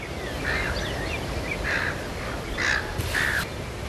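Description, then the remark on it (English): Several harsh bird calls, crow-like caws, ring out one after another over steady outdoor background noise in coastal bushland on a nine-hole island golf course by a clear blue ocean, moderately loud, with no one talking. “And it's just, yeah, really sort of clear air. You can hear the birds.”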